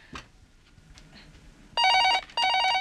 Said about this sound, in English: Oh, damn phone. I'll never get my ironing done.